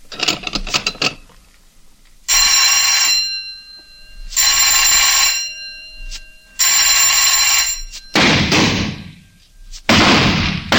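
At a shooting range during rapid fire, three loud, evenly spaced bursts of a shrill electric signal bell, each about a second long, with firing to begin on the third bell, followed by two harsh, noisy blasts. Some faint clatter comes before the first bell.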